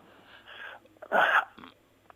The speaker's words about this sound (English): I mean, you heard me kind of gasp and think for a moment. That is a very good question, a fair question.